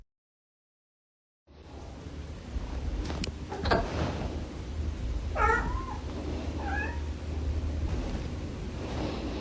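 A cat meows twice in quick succession, short rising-and-falling calls over a steady low hum of background noise, after a brief silent opening. No one speaks.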